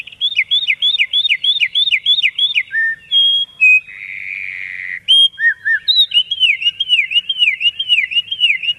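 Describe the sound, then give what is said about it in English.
Birdsong slowed to half speed, bringing its pitch down an octave: a run of clear, looping whistled notes repeated in quick rhythm, then a buzzy drawn-out trill, then more rapid repeated phrases, loud with no talking. “So we play it back at half the speed. This is the same song slowed down.”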